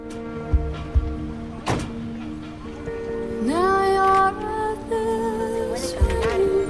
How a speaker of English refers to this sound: The battered transit van pulls up. Anthony gets out and opens up the back doors.